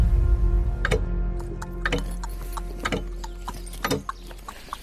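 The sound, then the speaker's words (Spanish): Slow, evenly spaced clip-clop of a horse's hooves walking on hard ground, with a steady low rumble and faint clinking underneath and no voices. “Vamos a tener que ir a caballo, ¿no?”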